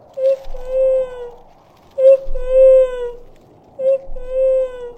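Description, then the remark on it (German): Snowy owl calls: three loud, drawn-out wailing cries, each starting with a sharp onset then a long slightly wavering tone, repeated at steady intervals with short pauses between. “Das ist eine Schneeeule.”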